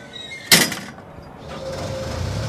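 The heavy steel door of a construction lift, used by a painter to repaint the Peachoid tower, slams shut with a single sharp, loud clang that rings briefly, followed by a steady low mechanical hum.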